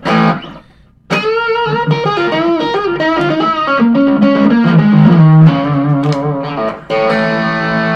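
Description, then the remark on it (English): An electric guitar plays a flowing run of ringing notes drenched in reverb, with a slightly gritty tone, briefly pausing before continuing; loud, with no voices. “Wait, no, there's a reverb.”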